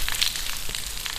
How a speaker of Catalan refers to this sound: I per últim, el so després de la pluja en un carrer de nit fosc i on les canonades descarreguen tot el que ha caigut.